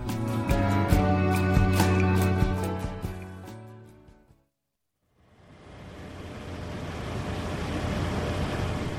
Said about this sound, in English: Ah, to many, the sound of summer, literally a lifesaver. The air conditioner.